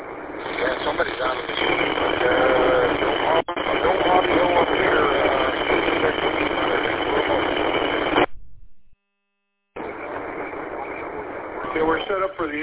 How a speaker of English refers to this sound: Sunday night at 5 o'clock, so that's why you're hearing what you're hearing. It's HF. There's no squelch, so you just gotta be patient and see what we're gonna do here.